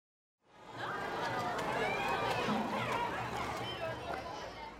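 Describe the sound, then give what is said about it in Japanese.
Dense crowd chatter at a fireworks festival with food stalls before the fireworks begin, a steady wash of many overlapping voices and footsteps with no single speaker standing out, holding loud and even throughout. “まだ花火が始まる前やのに、すごい数の人だすな。”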